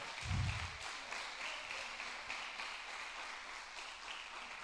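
A crowd claps steadily for several seconds as applause for the Lord, a dense, even wash of many hands that opens with a low thump and holds at a constant moderate level, with no voices over it.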